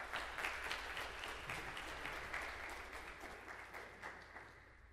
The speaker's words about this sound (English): I'll give him a round of applause and welcome him.